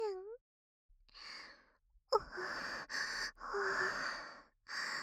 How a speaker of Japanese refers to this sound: こうやって荒い息遣いで話されると